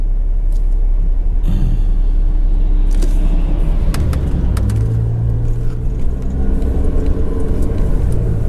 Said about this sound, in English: we got a traffic jam in the middle of Camden today.